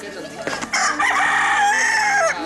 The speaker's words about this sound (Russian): Нравится, когда кричит петух. Он очень громкий.